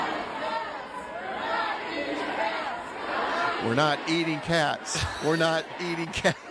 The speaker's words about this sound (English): tell us what the crowd is chanting at Tim Walz' rally last night in Michigan